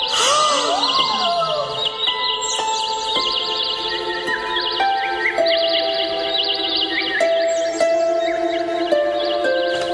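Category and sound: bird, birds chirping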